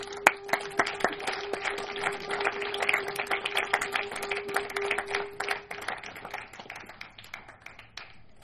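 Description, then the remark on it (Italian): An audience applauds steadily, a dense patter of many hands clapping at moderate loudness for several seconds, with a faint sustained tone underneath, before the clapping thins and fades out. “un applauso.”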